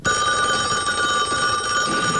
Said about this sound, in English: Your phone's ringing.